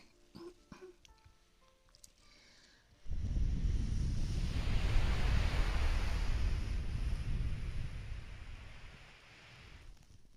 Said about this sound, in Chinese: 感觉到了吗？海风加海浪的声音。